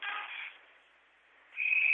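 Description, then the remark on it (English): A referee's whistle for an offside call against the Lumberjacks in the first period of an ice hockey game against Lakeland: a shrill, steady high-pitched blast rises loudly near the end, after a brief burst of muffled arena noise and a short quiet lull. “And we get a whistle and an offside call against the Lumberjacks.”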